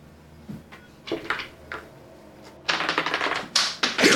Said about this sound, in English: Dice just went everywhere.